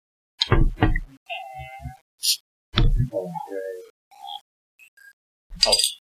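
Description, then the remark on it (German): Glasses of chili-infused beer clink together in a toast, with several bright ringing chimes scattered between a few dull knocks and thumps, moderately loud, with no clear talking. “Prost!”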